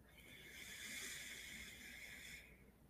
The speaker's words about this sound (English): Breathing in through the right nostril. Shifting nostrils and breathing out through the left. Breathing in through the left.